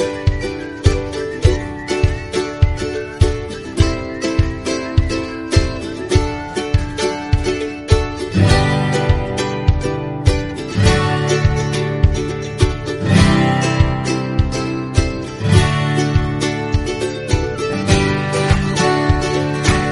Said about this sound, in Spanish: Bueno, no es que estemos, esas son las palmas que se oyen de fondo, ¿eh? No es que estemos aquí tocando las palmas en este primer programa con la Fundación Más Humano.